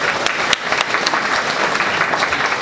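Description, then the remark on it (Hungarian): An audience applauds a correct guess (quince) in a guessing game, steadily, a dense wash of many hands clapping at an even, fairly loud level, with a few sharper individual claps popping out of the mix and no voices. “Tapsoljuk meg.”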